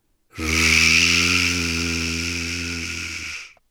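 A voice imitates loud buzzing, of something buzzing at the very top of a tall oak tree in a forest clearing, with one steady, drawn-out 'zzhh' sound lasting about three seconds. It has a low droning hum under a hissy edge and stays even before stopping abruptly.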